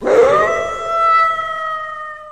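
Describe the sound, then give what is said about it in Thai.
A single long, sustained wolf howl that rises quickly at the start, then holds a steady mid-pitched tone with clear harmonics, loud and alone without speech. “เสียงหอนของหมาป่านั้นบ่งบอกว่าหมาป่ากำลังจะออกมาล่าเหยื่อ”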